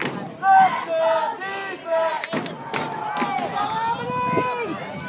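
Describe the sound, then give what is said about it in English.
A crowd at a high school football game cheers and yells, recorded on an iPhone from the bleachers, many overlapping voices shouting at once in a steady, loud roar with sharp bursts of higher-pitched whoops throughout. “My mom took this footage on her iPhone camera from the bleachers at one of my games.”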